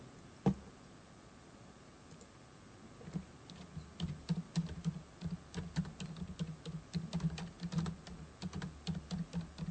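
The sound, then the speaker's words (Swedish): Rapid, irregular key clicks from a computer keyboard as someone types a website search, starting sparse then settling into a steady flurry of taps over a low background hum. “Det är så lite tangentbord här, förlåt.”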